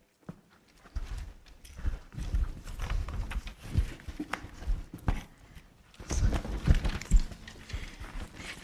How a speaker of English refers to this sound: Did I forget anything? A donkey. Right, yes. And a donkey.